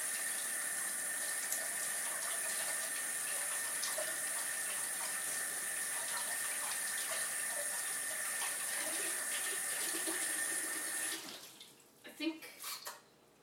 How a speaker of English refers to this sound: Standing off the side because our sink tins just splatters. Our little filter thing is broke. Now the water comes out really fast and sprays. Not really sprays, but sort of coming down straight, it kind of goes out.